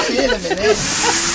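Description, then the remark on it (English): A Hoover vacuum cleaner, used in a trick by the performer Captain Dan the Demon Dwarf, runs with a loud, breathy hiss and a whining tone that wavers up and down in pitch before settling into a steady drone. “Who does a really good trick with a Hoover.”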